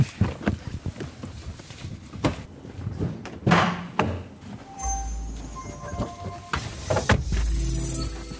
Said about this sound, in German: Man hört es, wir sind vorne angekommen, Tür zu.